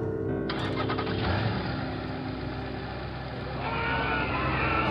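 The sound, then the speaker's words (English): A Mercedes car engine cranks and catches, settling into a steady idle before revving up louder as someone drives the car off, with no voices. “Someone, stop that car! Someone's driving off with the Mercedes!”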